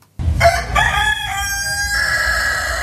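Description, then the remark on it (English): A prize-winning show rooster, bred near Wagga Wagga, black with lots of white spots around its neck and on its wings, lets out one long, loud crow, its strained, rising call stretching out for a couple of seconds with no voices around it. “Looking at that beautiful bird that you just got out and showed me, describe the feathers for me, because they weren't just black, particularly around its neck and on its wings.”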